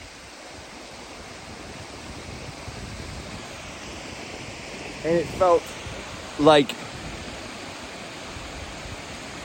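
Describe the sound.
A steady, rushing roar of a crashing waterfall fills the whole recording, constant, with a voice speaking a few brief words over it partway through.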